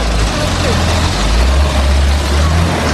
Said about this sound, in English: They're completely thrashing that engine.